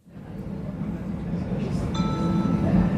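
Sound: train arriving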